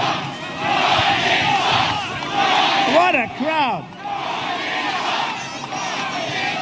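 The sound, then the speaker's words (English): A large crowd at a rally chants "LeBron James sucks" in unison, a dense roar of many voices rising and falling in rhythmic waves, with a few sharp whistles cutting through midway. “That's the chant.”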